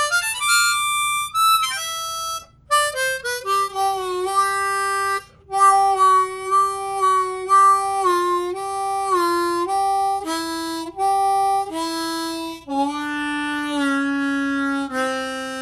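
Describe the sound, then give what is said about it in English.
A harmonica, harp number five, plays a run of sustained reedy notes that step through different pitches, with brief hitches and breaks between notes as the reeds catch before sounding, adjusting in their slots after flat sanding. No one speaks. “You can hear the reeds catching a little as they adjust themselves in their slots after the flat sanding.”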